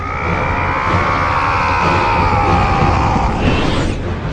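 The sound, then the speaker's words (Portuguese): A loud, prolonged battle yell from Kratos, the God of War video game character and Sony symbol, held for about four seconds with a slowly sliding pitch over a dense, rumbling low backdrop. “O símbolo da Sony, você vê o Kratos gritando.”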